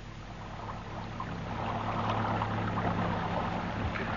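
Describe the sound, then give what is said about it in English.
A boat chugs steadily along at night in the dark, swinging round on a safe route past skerries (little islands), with a low engine drone and a broad wash of water around the hull, growing slightly louder partway through and holding steady, with no one talking. “I'll take the boat round as soon as it gets dark.”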